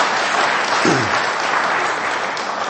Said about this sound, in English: Well done. Do we give them a round of applause?